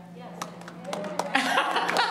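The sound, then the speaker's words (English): An audience at a live-streamed gathering on the last day of February claps a few times in an uneven rhythm, then the claps thicken into a quicker, fuller burst, with low voices and murmuring underneath throughout. “And why are you clapping?”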